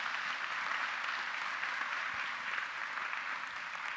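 An audience applauds steadily for several seconds, a dense wash of many hands clapping at an even, sustained level with no voices standing out.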